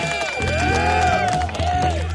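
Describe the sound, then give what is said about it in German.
A short crowd jingle: a loud, dense mass of voices booing and jeering, with wavering, sliding vocal tones rising and falling over a steady low rumble, lasting about two seconds. “Ich hab Buhrufe gehört. Ja, das ist auch schon ein Jingle übrigens.”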